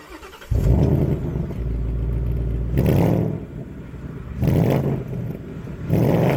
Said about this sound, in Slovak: Teda, ak by som vôbec vedel, ako sa taký Koenigsegg Jesko šoféruje. Brm, brm, brm.